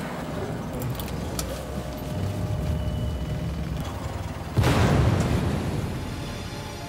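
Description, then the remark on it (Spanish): A sudden loud explosion that sends up smoke bursts out after several seconds of low, steady rumbling background noise, followed by a sustained roar and crackling debris that slowly fades. “La oficina del doctor estaba lo suficientemente cerca para poder ver el humo de la explosión desde la ventana.”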